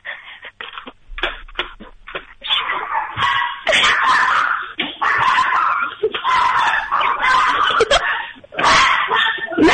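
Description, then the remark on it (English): Several dogs bark and yip excitedly in a dense, overlapping chorus, loud, with scattered whimpers mixed into the continuous racket. “Can you hear them bark?”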